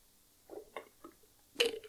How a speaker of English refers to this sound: Now I need a sip of my Snapple.